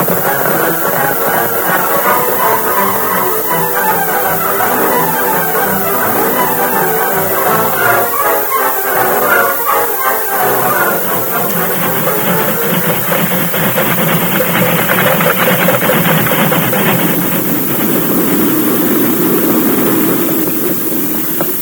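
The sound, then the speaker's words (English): A loud, continuous mechanical rumble with hissing and steady rhythmic clatter as a train engine and freight cars climb a hill in a Lone Ranger radio drama, holding a constant roar for the whole stretch. “Those trees will give us cover until the engine and the freight cars have passed”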